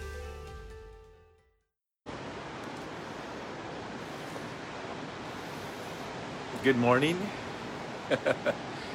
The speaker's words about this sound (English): Yes, this is the ocean schism, and that is the ocean behind us. You just can't see it. Super foggy this morning.